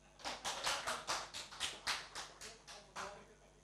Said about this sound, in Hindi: बोले एक बार हाथ घूम जाएगा तो फिर कर नहीं पाएंगे, इसीलिए ऐसे ही ताली बजाएगा.